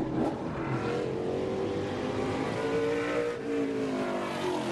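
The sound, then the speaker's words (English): Loud, continuous roar of race car engines revving and whining at Rockford Speedway, a grassroots track serving as a minor league venue of NASCAR racing, several harmonic tones rising and falling together, with no voices heard. “Rockford Speedway is one of about 100 grassroots tracks around the country that serve as minor league venues of NASCAR racing.”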